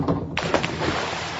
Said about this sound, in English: Diving into your pool on a hot summer day.